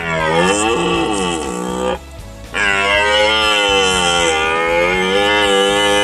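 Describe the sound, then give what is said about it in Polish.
A male deer (stag) roars during the autumn rut in the forest: two long, loud, deep bellows with a rough, droning tone, separated by a brief pause, with no talking over them. “Tak, takie dźwięki samców jeleni można usłyszeć teraz w naszych lasach o zmroku i o świcie.”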